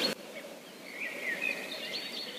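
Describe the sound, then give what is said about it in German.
Faint, thin birdsong in a park in Philadelphia: a few high-pitched chirps and short whistled notes scattered over a steady low background rumble, with no one talking. “Sag mal, tut mir leid, aber ich höre nur Vögel.”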